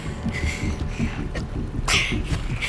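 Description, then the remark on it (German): Water laps and sloshes gently against villagers' boats, including a fishing cutter and a rowing boat, moored at a jetty: a steady low churning with a few soft knocks and splashes, without any talking. “Jenseits des Grundstücks dümpelten die Boote der Dorfbewohner am Anleger.”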